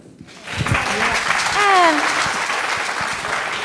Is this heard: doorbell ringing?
no